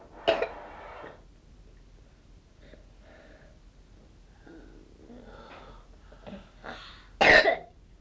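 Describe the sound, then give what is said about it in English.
Two sharp, forceful coughs, one at the start and one near the end, with quieter throaty rasps and breaths in the gap between them. “Cough, see if you can spit it up.”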